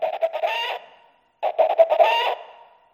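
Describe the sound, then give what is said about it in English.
Two bursts of chickens clucking, each a rapid run of clipped, throaty clucks rising into a drawn-out squawk, separated by a brief pause. Fairly loud, with no talking. “That's chickens for sure.”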